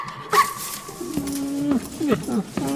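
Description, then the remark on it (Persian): A small messenger dog whimpers with drawn-out, high whines, then lets out a few short yips and barks in quick succession, fairly loud. “یه دفعه روی زمین سگ کوچولو نامه بر ظاهر میشه، بلند میشه به روی پاش وای میسته.”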